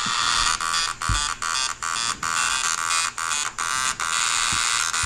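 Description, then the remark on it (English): An old ribbon-style dot matrix printer rasps through its lines, a loud buzzing screech broken by brief pauses as the head shuttles back and forth, with no voices. “It's the old ribbon style printer. Dot matrix, baby.”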